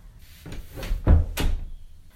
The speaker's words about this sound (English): Quick, come in so I can shut the door.